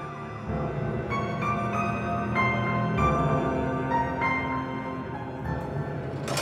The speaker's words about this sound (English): Red and blue flashed slivers across her face. Then he heard it. The whir of police sirens.